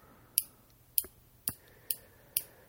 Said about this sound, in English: Who's clicking their pen again? Who's the guy that says, I don't click my pen? You can't hear that. Oh, yes, we can. Oh, yes, we can. And I ain't going to edit it out either.